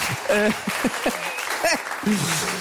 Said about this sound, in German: Ein Applaus.